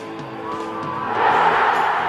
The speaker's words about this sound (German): Riesiger Jubel.